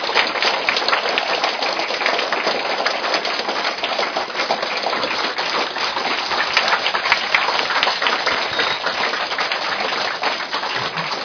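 Dense, steady applause from a large crowd welcoming a school principal, a continuous crackle of many hands clapping at an even loudness for about eleven seconds, with no voices over it.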